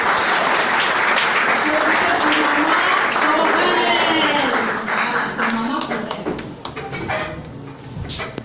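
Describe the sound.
An audience breaks into sustained applause, a dense crackle of many hands clapping that holds steady before thinning out, with voices and a few cheers mixed into the noise.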